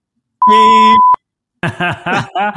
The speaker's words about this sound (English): Next week, we've got, maybe you can like beep. Will it get beeped out if I wanted to get beeped out? Yeah. You just have to say what you want beeped out.